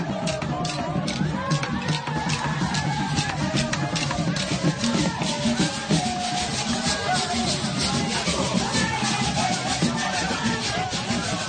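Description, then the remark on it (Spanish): A large crowd of local people welcoming arriving travellers at the airport in Franceville, Gabon, escorting their bus: many voices mixing with rhythmic clapping and clatter, a dense, steady and loud din that carries on without a break for the whole stretch. “un sonido que nos has enviado del recibimiento en el último aeropuerto de los 75 viajes que habéis tenido que hacer hoy”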